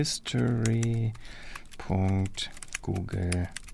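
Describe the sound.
Rapid clicks of typing on a work computer keyboard in an office, fairly loud, come in short bursts while a voice sounds over them in three stretches, as someone logs into a Google account and clicks through the privacy settings.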